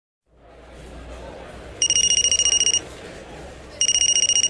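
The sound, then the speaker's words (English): A cell phone ringtone trills in a restaurant in two bright, pulsing bursts about a second long each, separated by a short pause, over a steady murmur of background restaurant noise. “Ugh, I hate it when people use cell phones in restaurants.”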